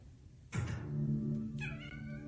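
cat meowing

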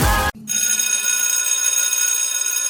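bell ringing

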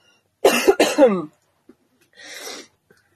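coughing

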